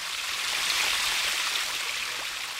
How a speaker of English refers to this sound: Water splashes out of a small pipe into a long basin that's made up of sky blue tiles. For a few meters, the stream runs through a shallow bricked canal before flowing down into the valley below.